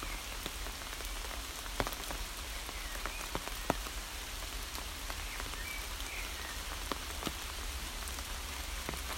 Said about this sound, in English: Now come out at the other side of the woods, and despite the pouring rain, it's really quite peaceful here. the sound of the birds in the trees, the hum of a distant road. But other than that, it's very peaceful indeed.